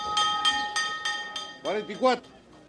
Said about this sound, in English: The bell then rings.